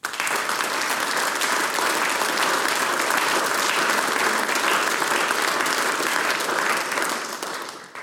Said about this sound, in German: Wunderbare Männerstimmen haben wir mit dabei gehabt. Applaus für den ….